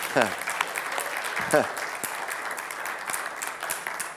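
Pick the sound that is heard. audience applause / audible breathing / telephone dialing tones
audience applause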